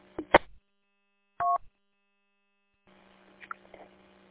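A single short touch-tone keypad beep sounds clearly after a couple of sharp handset clicks, followed by a low, steady line hum with faint crackles.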